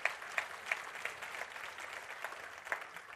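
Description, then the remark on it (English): An audience applauding: a dense, steady wash of many hands clapping together, with a few sharper individual claps popping out above the crowd, and no voices heard. “Come on, give me another good clap off.”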